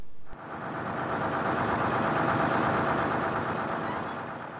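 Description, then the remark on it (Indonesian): A heavy engine of a bus bound for Jogja rumbles, its low drone swelling as the bus approaches from the east and stops, then holding steady as it idles before easing off slightly. No voices are heard. “Aku tetep nyekeli tangane nganti bis mau mandek ing ngarepku.”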